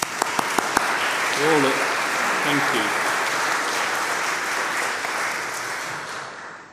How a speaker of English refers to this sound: And I kind of just thought it was a good chance to give them a round of applause for all they do, really.